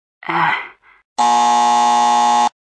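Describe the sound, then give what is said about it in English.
A short vocal groan or exclamation, then a steady, loud electronic quiz buzzer tone, triggered by pressing a button on a phone, holds for about a second and a third before cutting off abruptly. “To answer, they press any button on their phone and we'll hear a buzzer.”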